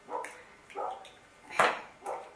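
A dog named Andros barks four times in short, evenly spaced yips over a couple of seconds, moderately loud, with the third bark the sharpest and strongest.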